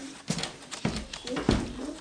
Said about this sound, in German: Er eilt die Wendeltreppe zum Büro der Frau von Rabenow hoch.